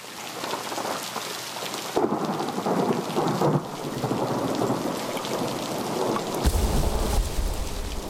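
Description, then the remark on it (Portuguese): Heavy rain pours steadily throughout, with rumbling thunder rolling in around two seconds and a deep, loud thunder rumble swelling near the end. “A raiva do rei causava tempestades enormes no mar e redemoinhos de areia, com correntes nervosas e explosões de algas.”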